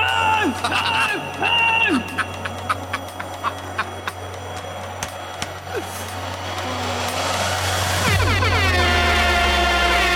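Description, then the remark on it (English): A jumble of clicks, chirpy tones and murmuring voices builds until a loud, harsh game buzzer blares near the end, its rich stacked tones sustaining for a couple of seconds, signalling that time is up on the Who game. “The buzzer has sounded, which means we're out of time on the Who game.”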